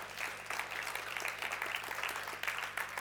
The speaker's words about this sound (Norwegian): Vi kan gi en applaus for Oddvar Tegnander.